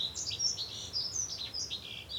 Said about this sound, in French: En fait, c'est un des premiers chants que j'ai observé de ma chambre. Et pas observé le chant, mais observé l'oiseau. Et entendu.